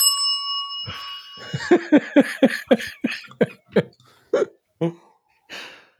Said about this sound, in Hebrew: למשל, הנה צפצוף.